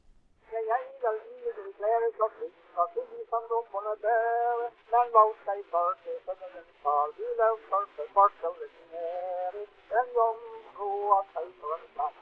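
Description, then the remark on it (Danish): A lone voice sings a Danish folk melody in a thin, muffled tone, an archival recording made decades later of what singers sang for Tang Christensen, with hiss and crackle, steady phrases and short pauses throughout. “høre nogle af dem, selvom de er optaget nogle årtier senere, da det var blevet muligt at lave lydoptagelser, er det nogenlunde, hvad sangerne sang for Tang Christensen, selvom det da nok har lyttet bedre uden sus og skratten.”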